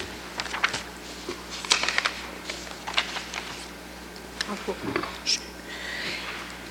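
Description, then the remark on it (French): Dry rustling and crinkling as someone shuffles and handles misplaced papers, in irregular bursts over a few seconds, with a steady low hum underneath and no clear talking. “Excusez, j'ai mal placé mes papiers.”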